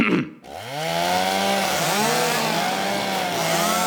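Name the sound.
chainsaw running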